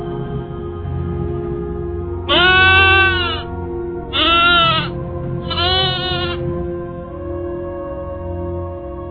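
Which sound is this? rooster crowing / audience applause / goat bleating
goat bleating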